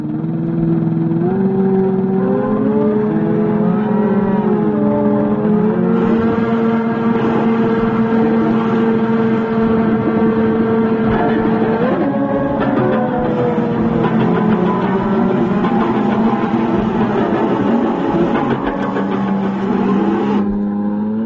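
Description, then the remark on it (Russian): A composition by Russolo made from the noises of futurist noise-making devices he built: layered, engine-like droning and whirring tones that slide up and down in pitch, sustained loudly throughout with no voices. “Руссоло начал создавать звуковую композицию, используя шумы, которые производили созданные им устройства.”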